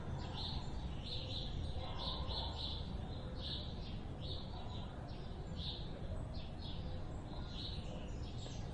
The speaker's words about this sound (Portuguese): Para você, os pássaros cantam, mas não cantam para conseguir ou ter qualquer coisa. Para eles é sua forma de comunicação, de viver a partir do amor.